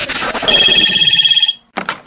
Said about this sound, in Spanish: suena el teléfono y llamaba un pavo de Radio Rivadavia